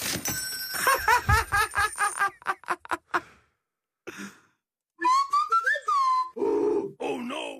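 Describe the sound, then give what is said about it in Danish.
A newly acquired phone ringtone plays loudly: a quick run of rhythmic tonal pulses, a brief pause, then sliding, voice-like melodic tones with grunting, sighing textures. No one speaks over it. “Jeg har lige fået ny ringetone. Prøv at høre den her.”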